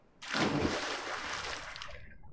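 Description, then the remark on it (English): A sudden, loud splash as someone dives from a sea cave into crystal-clear sea water, followed by a couple of seconds of churning, bubbling water that slowly fades. No voices are heard. “She hits the surface with a loud splash.”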